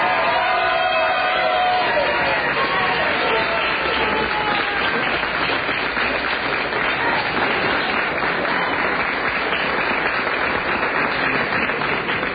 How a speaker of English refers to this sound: We have a very enthusiastic crowd here, as you can hear.